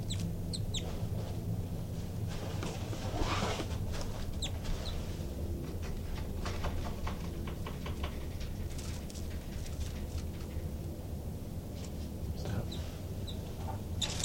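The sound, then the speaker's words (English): Agitated birds, disturbed at their nest with chicks, give repeated short clucking and chirping calls in irregular bursts, with a few thin high peeps, over a steady low background rumble, as two young pop out of the nest. No one speaks. “I disturbed the birds quite a bit, and the two new babies popped out of the nest, and they're climbing the screen now.”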